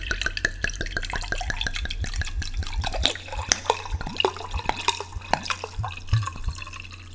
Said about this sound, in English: And this looks awful, but I'm sure it's fine to drink. You know, fuck it. Just gonna pour this in.